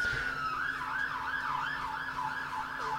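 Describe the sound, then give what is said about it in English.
An emergency siren wails outside, its pitch sweeping up and down in a steady, rapid cycle over a low traffic rumble. No one is talking. “So I was going to say something, and then the siren outside really distracted me.”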